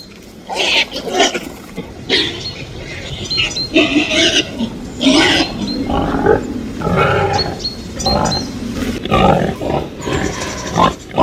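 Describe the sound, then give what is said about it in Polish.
Rough, snorting grunts of a wild boar in a forest come in quick, irregular bursts throughout, fairly loud, with squeals and snuffles mixed in and no talking. “Chrumkanie, uwaga, dzikiego zwierzęcia w lesie, choć tak naprawdę łudząco podobnego także do tego zwierzęcia udomowionego.”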